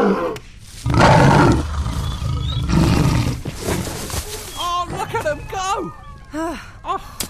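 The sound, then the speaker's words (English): A lion roars in two loud, rough bursts, followed by a string of shorter, higher growling yelps that rise and fall in pitch. “Oh, the lion will be around until morning.”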